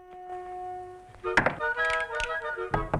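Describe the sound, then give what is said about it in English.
A man knocks on Annie Oakley's door, a few hollow knocks landing in uneven bursts over a steady, sustained musical tone, moderately loud, with no one speaking. “He pauses outside Annie's door and adjusts his hair before knocking.”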